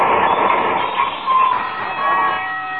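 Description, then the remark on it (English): A streetcar rolls along with a steady, heavy rumble, then slows as it pulls up at the McGee, 14th Street stop, thin, high metallic squeals from the wheels or brakes rising over the noise. No voices are heard. “Next stop, McGee, 14th Street.”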